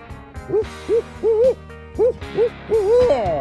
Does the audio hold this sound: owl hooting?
yes